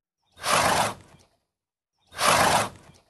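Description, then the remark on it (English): A horse blows twice, each a sharp, breathy whooshing exhale of about half a second with a softer tail, separated by a pause of roughly a second; fairly loud, no talking. “Blowing is a strong, rapid expulsion of air resulting in a high-pitched whooshing sound, usually used as an alarm to warn others.”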